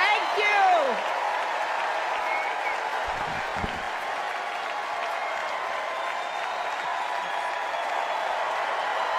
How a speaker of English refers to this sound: She's taken the podium. We'll take you there now, live from the DNC at the United Center in Chicago. Thank you all so much. Warm ovation for Hillary Clinton in the bowl.